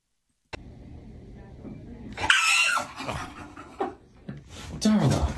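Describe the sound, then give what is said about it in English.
A dog at the vet's, looking at a door with people behind it, growls and lets out a few sharp, agitated barks in uneven bursts, over a low steady rumble of background noise. “The dog gets so worked up.”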